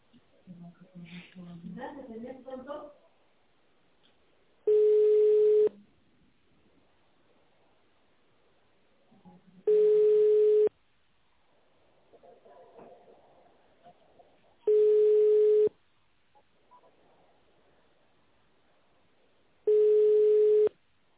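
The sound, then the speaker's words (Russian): A telephone ringback tone, heard while a caller waits after the automated greeting of the company Modular, sounds four times, each a steady, fairly low-pitched buzz lasting about a second, repeating every five seconds; a voice speaks briefly before the first ring and faintly between rings. “Если вы знаете внутренний номер сотрудника, наберите его в автональном режиме или дождитесь гудка.”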